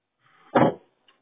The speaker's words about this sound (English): My 2 gallon fuel thing is knocking around in my back of the truck.